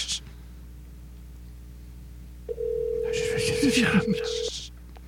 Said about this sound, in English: Here we go. Oh, it's ringing.